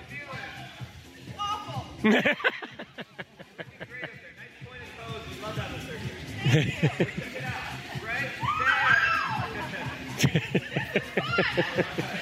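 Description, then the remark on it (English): A woman on a trapeze lets out a brief, high, wavering scream partway through as she lets go for her first swing, surrounded by giggling, chuckles and excited chatter from several people, with a few sharp thuds mixed in. “And there's the scream.”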